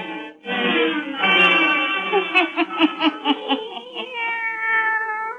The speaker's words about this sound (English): Now let us join old Nancy and Satan, her wise black cat.